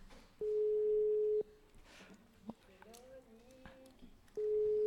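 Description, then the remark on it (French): A telephone ringback tone as a radio show calls a listener: a steady, mid-pitched electronic tone sounds for about a second, pauses for several seconds while people talk quietly, then starts again, loud and even. “Il faut laisser sonner longtemps, c'est normal.”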